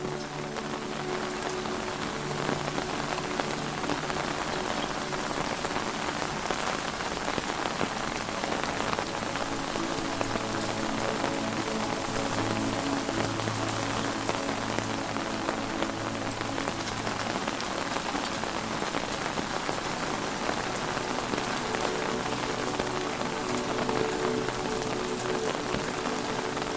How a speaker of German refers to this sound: Es ist ruhig geworden um dich herum. Nur das Geräusch des Regens umgibt dich.